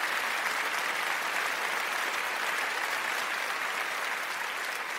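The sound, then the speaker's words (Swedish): Steady, dense applause from a crowd, many hands clapping continuously at an even loudness for about five seconds with no voices over it. “Kan vi få såna här applåder som Robin och Johan sätter in?”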